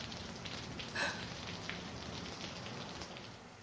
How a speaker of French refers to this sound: Oh, encore la pluie. Mais ça fait rien, on aime ça, la pluie.